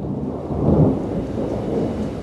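thunder

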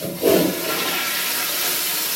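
toilet flushing

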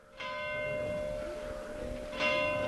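church bells ringing

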